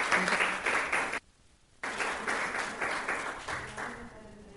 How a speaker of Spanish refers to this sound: Le damos un aplauso entonces